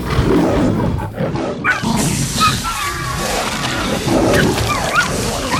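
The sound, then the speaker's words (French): A large creature roars and snarls loudly and continuously while attacking and eating a dog in a chaotic struggle, with faint dog-like yelps mixed into the din. “Oh non, il est en train de manger le chien.”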